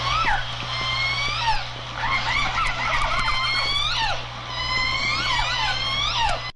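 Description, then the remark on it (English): A recording of several orcas calling over one another in a steady stream of squeaky, rising and falling whistles and buzzy pulsed cries, with a constant low hum running underneath throughout. “First, we're going to hear some orcas.”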